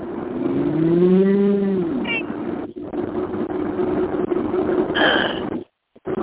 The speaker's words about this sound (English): Cow.